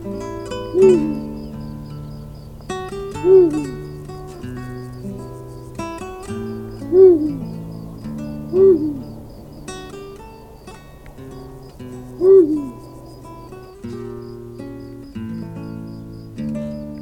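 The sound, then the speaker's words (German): Deep, booming hoots of an eagle owl ring out five times at uneven intervals, each a short, low call rising clearly above a soft, steady background of tones and insect-like chirring. “Das war der Uhu.”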